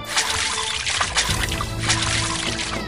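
Water splashing and churning as someone wades into a shallow, slow-flowing river to look for river stones: a continuous wash of liquid sound with a few sharper splashes standing out along the way.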